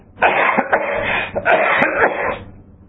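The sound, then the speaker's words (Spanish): Two rough bursts of coughing, loud, each a quick run of harsh, chesty hacks separated by a brief pause, caused by smoke from burning stones. No one speaks. “No, me hacían toser.”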